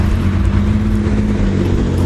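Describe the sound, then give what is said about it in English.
Cars on Riceboro Road fill the air with a steady, loud rumble of tires and engines, a continuous wash of traffic noise with no one speaking, heard from a sidewalk while walking with a dog toward a bus stop. “And as you can hear, the cars on Riceboro Road, they're coming closer.”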